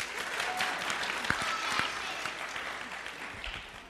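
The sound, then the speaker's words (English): A crowd applauds steadily after a memory verse, Luke 10:27, is recited from a stage, many hands clapping in a dense, continuous patter that holds at a fairly even level for several seconds, with a few sharper individual claps standing out. “Clap. He didn't read that.”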